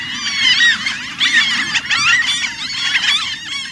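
A dense chorus of Franklin's gull calls, many overlapping nasal, squealing cries filling the air continuously and loudly, as if from a busy colony, over a low background rumble.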